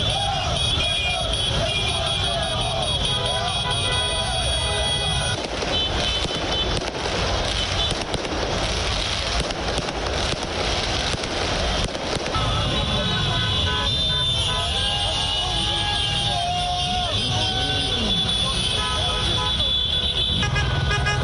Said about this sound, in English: Paris Saint-Germain supporters celebrated their football team reaching the UEFA Champions League final for the first time. The fans blared car horns and waved PSG flags and jerseys after the 3-0 victory against Leipzig of Germany in Lisbon, Portugal.